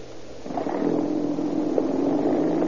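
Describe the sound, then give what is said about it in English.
The engine of police patrol car 42 picks up and revs as the car pulls away, settling into a steady droning hum that carries to the end with no talking. “Patrol car 42. That's right.”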